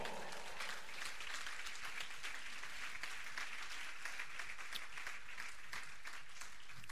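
An audience breaks into sustained applause for Christ during a church sermon, a dense, steady wash of many hands clapping at once for several seconds, fairly loud and even throughout with no speech on top.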